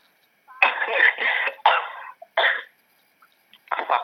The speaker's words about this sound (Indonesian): Sampai batuk loh.